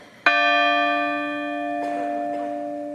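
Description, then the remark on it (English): A single deep church bell strike rings out loudly and hangs in the air, its rich tone slowly fading, with a faint thump partway through the long resonance and no voices; a bell rung for each victim at a vigil outside the Basilica of Saints Peter and Paul in Lewiston, Maine, after a shooting. “A bell rang out for each victim lost.”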